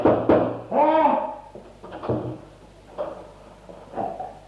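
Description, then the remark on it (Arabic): Sharp knocks on a wooden door, a quick rap near the start and a few more spaced out after, moderately loud, with a voice briefly calling out between them. “رويدك يا رجل، هل تظنني واقفا وراء الباب؟”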